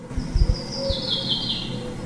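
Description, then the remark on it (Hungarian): A chaffinch sings a short, fairly faint run of high notes that slides downward over about a second, with a few low thumps and handling noise near the start. “Ez például az erdei pinty.”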